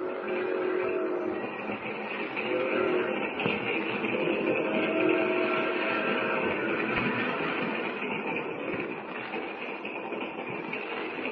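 vehicle, moving passenger train interior

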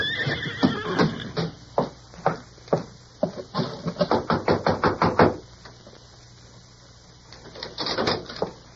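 animal, horse whinnying

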